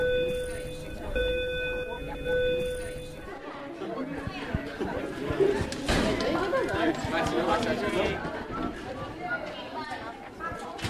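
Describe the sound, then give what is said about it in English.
A school closing bell rings in a steady, sustained tone for about three seconds at Nome Public Schools, two weeks into the academic year, then gives way to a loud, bustling crowd of students chattering and pouring out. “At closing bell, now 2 weeks into the academic year, you'll likely see some new faces pouring out of the Nome Public Schools, teachers, staff, students eager for the year ahead.”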